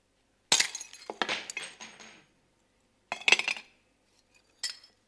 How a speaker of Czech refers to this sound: Líbí se vám to? Přátelé, tady ty střepy. Někdo říká, no to je škoda.